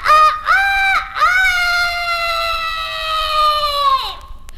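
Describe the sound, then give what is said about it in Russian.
A voice loudly imitates a rooster's crow to summon someone, two short clipped notes followed by a long sustained call that drops in pitch at the end, alone. “Где петушок? Нет, нету петуха. Это я тебя вызвала.”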